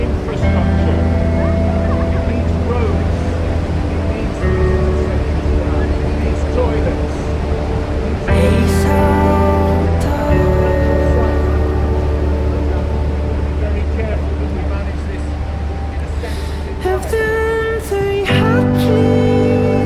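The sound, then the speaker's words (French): A loud, steady roar of a waterfall, heard while approaching it past a crowd of tourists taking photos, rushes without pause throughout, layered with a low droning hum and faint, indistinct voices. “Ah, on entend le bruit alors qu'on s'approche de la cascade et qu'on la voit de moins en moins en fait parce qu'il y a un mur de touristes qui prennent leurs photos.”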